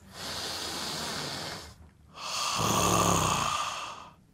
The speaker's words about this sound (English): The power of belly breathing. Ready? Yeah.